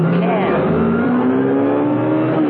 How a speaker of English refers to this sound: Baffled, Conrad screamed his car round in a sharp curve.